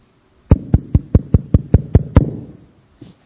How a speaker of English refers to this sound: I'm empty. Can't you hear the tapping on my water pot?